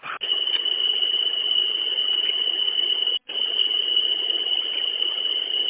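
A low air pressure alarm, set off by pumping the air pressure down, sounds as a steady, piercing high-pitched tone over a harsh buzzing drone, cutting out briefly halfway through and then resuming at the same level.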